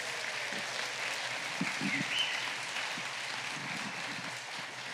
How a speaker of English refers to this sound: If you're grateful this morning for the way our youth have led us this morning, please show your appreciation by giving a round of applause.